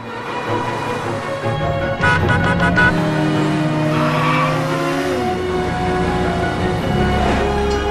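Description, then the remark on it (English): A car speeds past with its engine roaring, then its tires screech loudly in a long squeal as it swings around a corner into a train station car park, the engine droning on afterward. Loud, with no voices. “He screeches around a corner and into the train station car park.”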